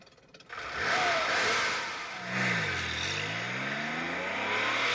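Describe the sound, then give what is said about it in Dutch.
A car drives away, its engine roaring and accelerating, the low droning pitch sinking and then climbing again under a steady rush of road noise, with no voices. “Ik zie de achterlichten nog.”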